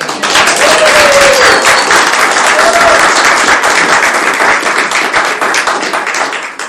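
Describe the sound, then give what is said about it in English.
A crowd applauds a music composer in a dense, steady wash of many hands clapping, loud and sustained for several seconds before easing slightly at the end, with a few faint cheers or whistles rising above it. “So now you can clap for him.”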